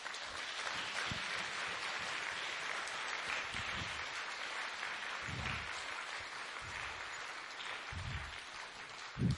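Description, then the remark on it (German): Sustained audience applause for the nuns, the School Sisters of Notre Dame, a dense steady wash of clapping from many hands that holds at an even level for the whole stretch, with no voices rising above it. “Vielleicht gebt ihr den Schwestern mal einen großen Applaus.”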